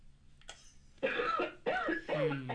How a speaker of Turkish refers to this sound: Evet. Evet. Evet. Biraz öksürüyorsun. Ciğerlerin su toplamış.